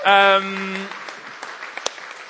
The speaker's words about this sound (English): You can give a clap to our gatekeepers.